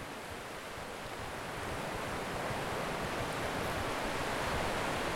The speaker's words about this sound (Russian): Дорога от железнодорожной станции в Юрмале до моря заняла около 30 минут. Над водой кружат чайки, а волны прибивают к берегу куски льда. Да, и звук зимнего моря чуть-чуть отличается от того, что ты ожидаешь услышать, от летнего моря.